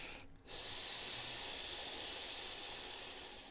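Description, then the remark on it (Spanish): A voice produces a long, steady hissing "sss" sound, the letter S drawn out, lasting about three seconds, bright and airy, starting after a brief pause and fading slightly at the end. No words are spoken. “Y luego la letra S, como un silbido. No es un silbido, es la S.”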